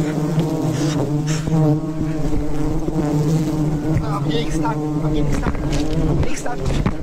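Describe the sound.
A dense, loud buzzing of a swarm of many bees, a steady droning hum that swells and wavers throughout, with voices talking faintly underneath.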